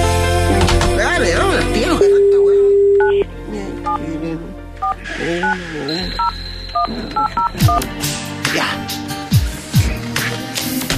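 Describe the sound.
A phone call being placed to a woman during a radio show: a short run of clear electronic keypad dialing beeps follows a voice speaking at the start, with a brief steady tone partway through.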